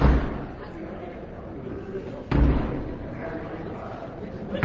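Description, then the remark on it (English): Three heavy, booming knocks by the Queen's messenger on the large wooden doors of the House of Commons, summoning members to attend the opening of Parliament, evenly spaced about two seconds apart, echoing over a low murmur of background noise. “And then the Queen's messenger knocks on the doors of the House of Commons, summoning members to attend the opening of Parliament.”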